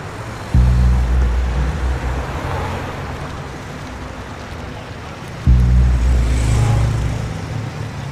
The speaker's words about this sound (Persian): مرد با موتور میاد سمتش.